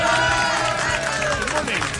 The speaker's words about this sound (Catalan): Aplaudeixen, però no amb gaires ganes. Què és aquesta apatia?